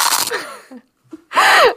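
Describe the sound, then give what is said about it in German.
Someone bites into a crunchy edible waffle coffee cup, coated to be heat- and water-resistant: a loud, crackling crunch, a short quiet pause with faint mouth noises, then a second loud, brittle crunch. “Also da hört man ja vielleicht schon, dass es auf jeden Fall sehr crunchy ist.”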